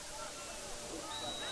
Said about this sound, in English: And a whistle. And we have a false start.